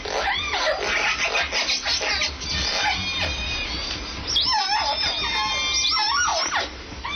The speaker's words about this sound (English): Scientists have long suspected that whales have language, and new research suggests that they even have local dialects. What you're hearing is a recent gathering of all three pods of Puget Sound's endangered southern resident orcas.